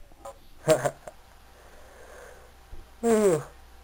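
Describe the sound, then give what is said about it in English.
Soap, a cat, yawns, giving two short, squeaky voiced bursts with a bending pitch, separated by a quiet pause of soft breathing. “Well, I can tell okay, by Soap's yawning, we can wrap up now.”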